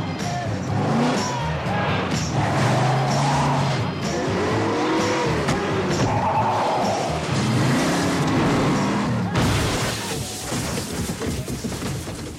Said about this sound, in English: This sequence here, when the car goes off the cliff, we used 9 cameras. Some of them were buried in what they called IMOs, or, you know, they were remote control cameras that were buried in the snow.